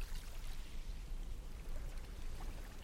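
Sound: sea waves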